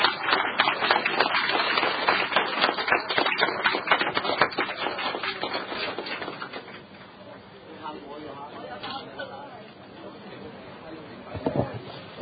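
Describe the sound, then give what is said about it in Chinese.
A burst of applause from many hands at a district council meeting, given for a retiring District Officer, dense and steady for several seconds before tapering off, leaving quieter murmuring voices and a few scattered sounds. “唔好咁，我哋俾掌声阿专员。”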